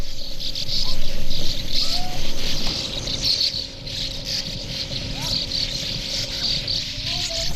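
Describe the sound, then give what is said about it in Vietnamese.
Sand martins at their nesting cliff near Lake Buyer twitter in a busy, continuous chorus of short buzzy calls, with a steady low rumble, like wind or an engine, running underneath throughout. “Đây là một vách đá gần hồ Buyer, nơi nhạn nâu xám làm tổ.”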